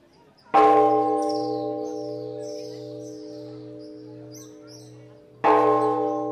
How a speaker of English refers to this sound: A prayer bell at the most famous landmark in Myanmar, the huge, shining Shwedagon Pagoda in Yangon, an ancient place